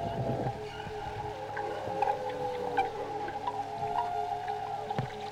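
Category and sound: animal, whale call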